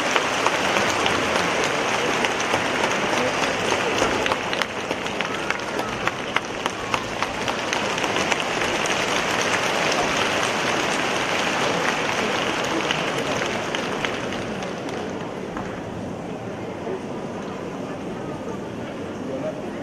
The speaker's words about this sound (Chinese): 现在，让我们用最热烈的掌声，恭请尊敬的卢台长为我们慈悲看图腾。